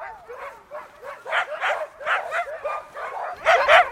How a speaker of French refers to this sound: Toutes les chiens ici, là, environ une quarantaine de chiens. Ça mange environ 80 livres de viande par jour.